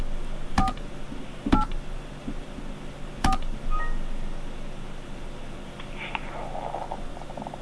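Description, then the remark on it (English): Three short touch-tone keypad beeps sound at uneven intervals over a steady line hiss as a caller spells a name on the phone keys for an automated dial-by-name directory, each a crisp dual-tone blip, followed by quieter faint tonal noise. “Spell the last name first using the keys on your touch-tone phone.”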